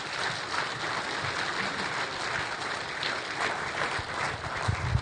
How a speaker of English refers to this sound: and why don't you, let's give him a round of applause here, a warm welcome.